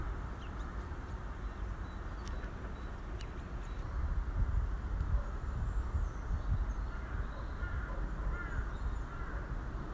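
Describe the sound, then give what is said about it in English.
Faint mewing cries of buzzards drift down from high overhead, a few scattered calls over a steady rush of outdoor background noise. “We've now left the buzzards behind.”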